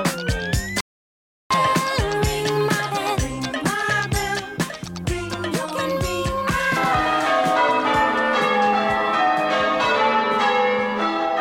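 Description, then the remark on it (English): A loud disco song with a steady, driving beat and bright synth tones, punctuated by descending electronic zaps; the music cuts out briefly near the start before continuing. “Of course, I apologise in advance for playing this song.”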